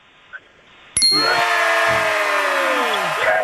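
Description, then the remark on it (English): After a second of quiet, a single bright bell is struck sharply to mark a correct answer and rings out loud, its shimmering tones slowly fading over the next few seconds with no one speaking. “give him a bell.”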